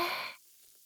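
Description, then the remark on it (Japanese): A single short, breathy fizzing hiss, like a whispered imitation of carbonated foam bubbling in the ear during ear cleaning, fades quickly into silence. “シュワシュワシュワ。シュワシュワシュワ。”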